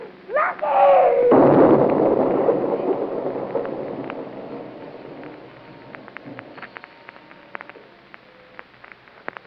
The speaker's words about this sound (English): Explosion. Show me to the ground. Blacked out for a few minutes. Then I started coming out of it. Barricade. Truck. Everything had disappeared into dust. Everything was gone.